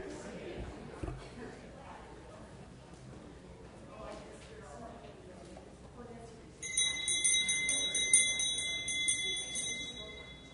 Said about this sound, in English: Thank you for the bell reminder from Anna. That was good. I forgot about that.